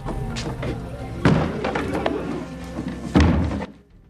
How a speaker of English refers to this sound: Scrooge slams the shutters, his face lined and drawn.